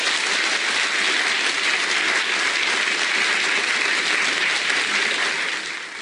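An audience applauds in a dense, steady wash of many hands clapping, holding at an even loudness for about six seconds before easing off slightly at the end, with no voices.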